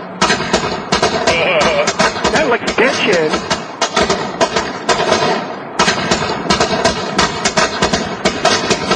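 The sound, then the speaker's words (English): A long string of lit firecrackers, thrown into a bush, pops in rapid, crackling bursts, loud, with a brief pause partway through before the popping resumes. A voice speaks over the noise. “Steve, light the firecrackers and throw them in the bush.”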